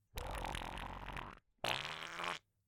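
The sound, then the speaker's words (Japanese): Two long, loud, wet-sounding farts from a girl, the first about a second and a quarter, the second slightly shorter and more sputtering, separated by a short pause. “やば、音ブリリューだって。くっせ。”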